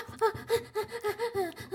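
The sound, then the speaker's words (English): A man breathes rapidly and heavily over a speakerphone in quick voiced gasps, about seven short pulses in under two seconds, steady and rhythmic, fairly loud, with no words spoken. “He's breathing so heavily he can barely fucking stop.”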